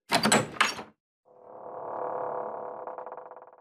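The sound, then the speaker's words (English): A front door opens: two quick clunks of the latch, a brief pause, then a long, drawn-out creak of the hinges that wavers as it swings, with no one speaking. “As everyone nods in agreement, the front door once more begins to open.”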